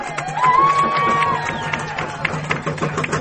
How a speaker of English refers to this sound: And this Attorney General really is the people's lawyer, and I ask you to give him the round of applause he deserves.